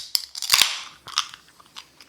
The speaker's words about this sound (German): Aber hey, lass uns doch mal anstoßen. Wir haben doch wieder was zu trinken hier.